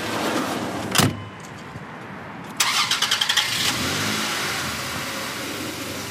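A vehicle door thuds shut, then a mail truck engine cranks in quick rhythmic bursts, catches, and settles into a steady idle rumble with no talking.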